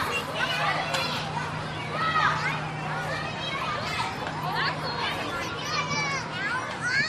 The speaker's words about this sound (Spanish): Los balonazos, la comba saltando, los gritos, el perseguir a la chica o al chico que te gusta.